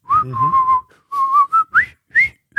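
Several people in an apartment whistle a jaunty, march-like melody together, clear, in short rhythmic phrases with brief pauses between them and no talking.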